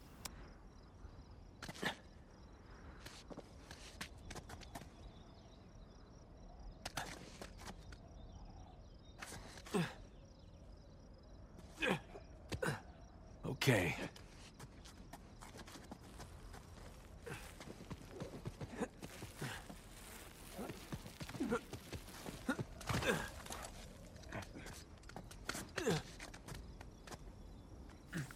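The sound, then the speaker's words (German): Footsteps tap and clunk at an uneven pace, some steps sharper and louder than others, over a faint steady background hum; a voice briefly says a single word. “Weil man hört ja erstmal nur Schritte und vielleicht noch irgendwie eine Menüauswahl, dachte ich erst.”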